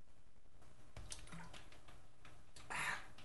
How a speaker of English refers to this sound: Let me take another little drink of water. I brought a backup little bottle of water because this big one's not going to last.